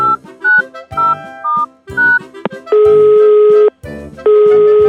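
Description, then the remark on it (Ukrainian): A run of short electronic tones as a number is keyed in on a telephone, followed by two long, steady ringing tones with a brief gap between them, loud. “Зараз зателефоную лисичці та подумаємо, що робити.”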